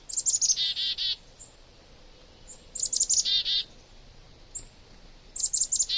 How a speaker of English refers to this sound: Many winter flocks include members of different species banding together to brave the cold. Songbirds in these flocks benefit from having other birds nearby. They can recognize warning signals from other species and follow them to sources of food.